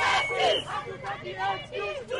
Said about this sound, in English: A crowd of about 60 activists marched past the Supreme Court, the police headquarters, and toward the National Assembly, chanting, "We don't want excuses, we want justice."